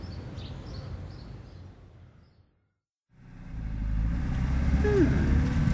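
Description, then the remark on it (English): A car driving into town, with a steady low engine and road rumble that drops out briefly partway through, then returns louder and fuller, continuous. “We usually go into town on the bus, but we're going in the car today.”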